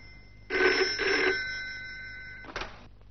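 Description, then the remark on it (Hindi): In a film scene, an old-fashioned telephone bell rings loudly at the Governor's office with a call from Dharmdas, in two quick rattling bursts, its metallic tone lingering before a brief final ring cuts in. No one speaks. “Film शुरू होती है एक इंसान को फांसी की सजा होने वाली है और तभी गवर्नर साहब के पास धर्मदास यानी धर्मात्मा का फोन जाता है।”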